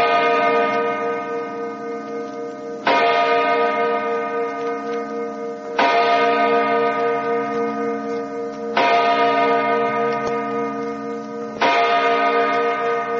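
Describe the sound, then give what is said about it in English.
A deep, resonant bell chimes the hour for the ABC's time call at 1 o'clock, with five slow, evenly spaced strikes, each loud toll ringing on and fading into the next. No one speaks. “This is the ABC and the time is...”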